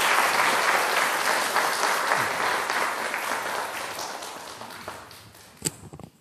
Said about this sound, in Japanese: アーメン、アーメン、ありがとうございます。それでは大きな祝福の拍手をよろしくお願いします。